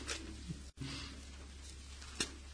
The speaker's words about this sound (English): and it's nice to hear the rustling of the leaves as you find it in your Bibles. Ja, ich mag das, wenn ich höre, wie er durch die Seiten durchgeht, wenn er sucht in der Bibel.